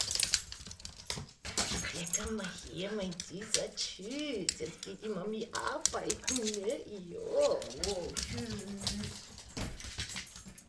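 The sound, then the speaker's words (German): A dog left home alone whimpers and whines in a long run of rising and falling cries, with keys jangling briefly near the start, as its owner leaves for work in the morning in Berlin. “So ungefähr muss man sich das vorstellen, wenn rund 165.000 Berliner Hundebesitzer morgens zur Arbeit starten und der Vierbeiner gezwungenermaßen den Tag zu Hause verbringt.”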